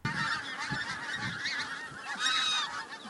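A flock of geese honking continuously, with many overlapping nasal calls layered into a dense, steady, moderately loud chorus.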